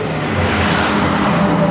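A school bus rumbles past, its low engine drone and broad road noise holding steady and fairly loud for a couple of seconds, with no voices.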